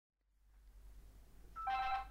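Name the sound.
telephone ringing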